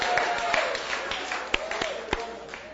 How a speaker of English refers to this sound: I didn't expect applause actually at that point in my story.